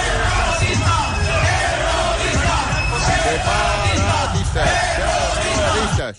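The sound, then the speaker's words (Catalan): A loud, dense crowd outside a conference shouts far-right Spanish chants such as "separatists, terrorists", many voices yelling together in a rough rhythmic cadence that stays intense and continuous throughout. “Dins del repertori de l'extrema dreta espanyola, a l'exterior de la conferència també es van sentir crits com aquests.”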